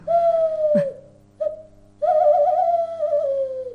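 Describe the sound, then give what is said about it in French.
A human voice imitates a tawny owl: a long, steady hoot, a brief soft note, then a drawn-out quavering hoo, fairly loud with no other sounds. “La chouette-ulotte.”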